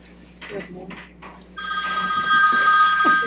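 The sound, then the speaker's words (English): A timer used to time speakers' comments goes off partway through, a loud, steady high-pitched electronic ringing that continues to the end while people keep talking underneath. “Timer is just not cooperating.”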